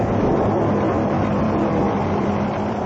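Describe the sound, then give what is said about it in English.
A car engine roars loudly and steadily, a dense rumbling drone that holds level throughout with no voices. “Whose car? I'm afraid it might be. Get out of the way!”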